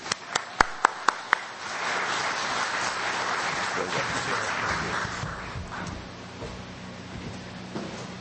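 An audience breaks into applause welcoming a speaker: a few sharp individual claps at first, then a dense, steady wash of clapping that holds for several seconds before gradually thinning out.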